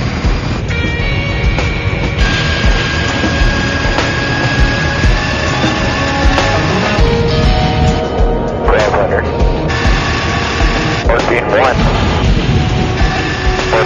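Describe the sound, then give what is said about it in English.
Airplane engines roar steadily and loudly on a runway just before takeoff, a constant drone with humming tones, plus a couple of brief rising whines and indistinct voices underneath. “race out to the plane on the runway just before takeoff.”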